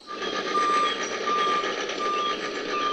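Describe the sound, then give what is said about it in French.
A construction machine's reversing alarm repeats a steady high-pitched beep over a loud, constant rumble and hiss of engine noise, with no one speaking. “On a des machines d'un côté et des sons naturels de l'autre côté.”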